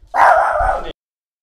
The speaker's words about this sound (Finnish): Vittu, toi koira vaan vittu haukku, mä ollaan pahoillamme.